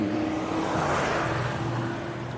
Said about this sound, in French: Alors j'espère que vous ne l'avez pas entendu, il y a un mec, une bagnole, une vieille Volvo là, et puis le mec il monte la côte en première. Putain, mais. Enfin voilà, il pue l'essence, ça pue le gasoil, j'en sais rien, mais.